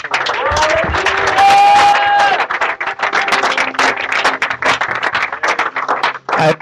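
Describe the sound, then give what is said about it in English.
A crowd at a Bible-teaching gathering claps and cheers loudly and continuously as the Apostle greets them, with excited voices and a sustained whistle-like tone rising above the applause early on. “Clap your hands.”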